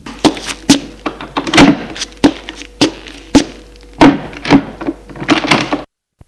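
A bedroom door being opened, heard as a run of sharp wooden clunks and knocks at an uneven pace, fairly loud, with no voices, before the sound stops abruptly.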